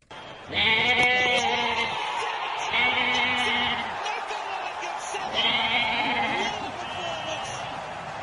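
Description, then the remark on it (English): A goat bleats loudly three times in quick succession, each call a wavering, nasal cry with strong harmonics, clear over a faint background murmur, used as a sting introducing the Goat Watch segment. “You bloody beauty, it's time for another great installment of Goat Watch.”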